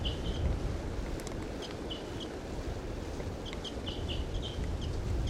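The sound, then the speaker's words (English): A wild female bird gives a series of short, high chirping calls in small bursts, fairly faint over a steady rumble of wind-like background noise. “This wild female starting to call.”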